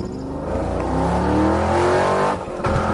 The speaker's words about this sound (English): The motor roars to life with tires churning, throwing creek gravel up into the front yard.